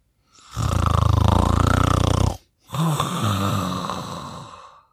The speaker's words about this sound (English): But it was too late. Grandad McAllister didn't hear Granny's warning. He was already fast asleep, snoring like a train.